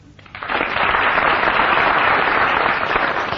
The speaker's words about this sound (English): I'm going to get the studio audience here and those of you listening at home to judge who so far has tied the best tie. They're well on the way. First of all, will you give your applause or otherwise for Barry Cryer?